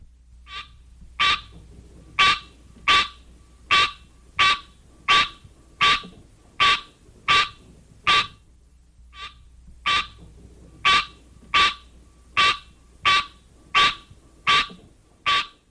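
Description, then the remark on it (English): A green tree frog (Hylocenaria) calls over and over, a steady series of short, sharp honking notes about twice per second, with one brief pause partway through. It sounds clear, with no talking. “One parent, the green tree frog, Hylocenaria, has this call.”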